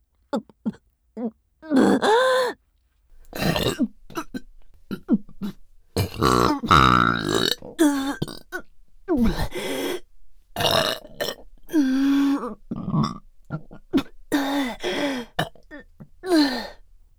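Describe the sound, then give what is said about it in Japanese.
A long run of loud burps, one after another with short pauses between, some drawn out and deeply voiced, others quick and choppy, with no talking. “やば、ゲップ止まんねえ。”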